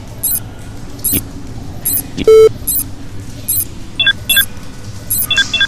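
A single loud, buzzy electronic scanner beep cuts in partway through, surrounded by regularly repeating high chirps and a few short two-tone blips near the end. No one speaks.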